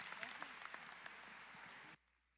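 An audience breaks into dense, steady applause, many hands clapping at once in a bright, crackling wash that lasts about two seconds before cutting off abruptly.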